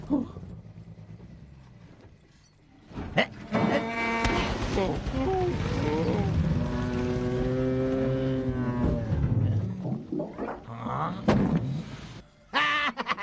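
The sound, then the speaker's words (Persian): Tractors give a low engine rumble that gives way to long, drawn-out lowing calls like cattle, loud, swelling and overlapping for several seconds before fading back to rumbling and scattered clanks. “آی خدا، واقعا این تراکتور ها خیلی خلن.”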